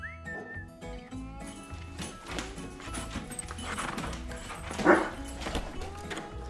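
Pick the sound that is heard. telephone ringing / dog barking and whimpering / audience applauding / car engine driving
dog barking and whimpering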